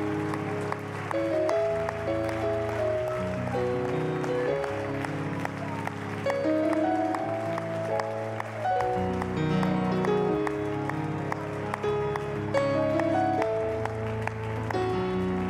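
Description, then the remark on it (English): An audience claps steadily and continuously as praise to God, the dense patter of many hands blending with sustained organ or keyboard chords playing throughout at a moderate, even level. “Why don't you give God one more hand clap of praise for his word?”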